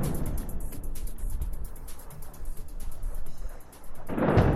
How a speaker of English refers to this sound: Sounds of explosions in Beirut.